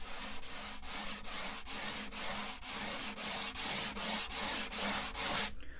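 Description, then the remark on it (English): Sandpaper rubbing back and forth on a guitar body in about a dozen steady, evenly spaced strokes, taking a little wood off a spot that sounds tight; each a dry, raspy hiss, growing slightly brighter toward the end. No one talks. “When I'm sanding, I'm listening to the sound of the sandpaper, which can change a little bit as I remove the wood.”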